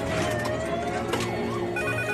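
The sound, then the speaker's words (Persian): A telephone rings steadily and fairly loudly for a couple of seconds, its tone holding with a brief warble partway through and no voices present, as a call is placed to emergency services at number 115. “در این صورت بهترین، درستترین و سریعترین کاری که باید انجام بدیم اینه که با اورژانس یعنی تلفن 115 تماس بگیریم.”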